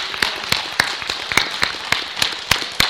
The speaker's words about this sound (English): So let's give him applause. Let's give the Lord applause.